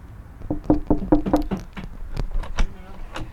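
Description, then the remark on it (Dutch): A door is closed on entering the Opium Atelier, with a quick series of rattling clicks and creaks from the handle and latch, ending in a few sharp knocks as it shuts. “Even de deur achter me sluiten.”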